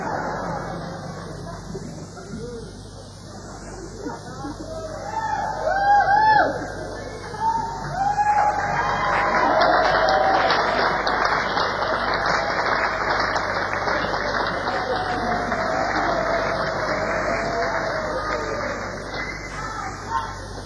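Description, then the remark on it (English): A crowd applauds and cheers for about twenty seconds after a band's drummer is introduced, a steady wash of clapping with scattered whoops and yells, swelling louder partway through and holding strong to the end. “Remember, it was just more applause than that.”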